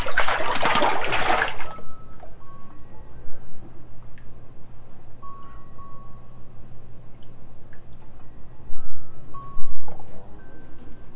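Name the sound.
water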